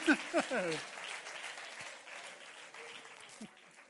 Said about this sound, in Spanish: Feítos de la iglesia. Dios os bendiga. Un aplauso para los feítos. ¡Y las feítas!